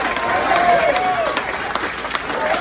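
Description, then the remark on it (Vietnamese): Wall Street Journal newsroom staff applaud steadily with a dense patter of clapping as they learn of a prisoner exchange involving their colleague Gershkovich. Voices cheer and whoop over the clapping, loud and sustained throughout. “Tại tờ Wall Street Journal, mọi người đều vỗ tay và reo hò khi tòa soạn biết về cuộc trao đổi tù nhân có sự tham gia của đồng nghiệp của họ, ông Gershkovich.”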